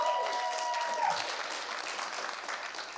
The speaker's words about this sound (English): Will you give her a round of applause?